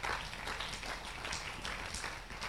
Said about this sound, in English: Clap your hands.